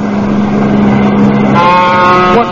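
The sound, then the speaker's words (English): A loud, steady vehicle engine drones, then a higher, harmonic roar surges in partway through as a car races past the heavy trailer truck on the pike, with no talking. “Trying to crowd a trailer off the pike?”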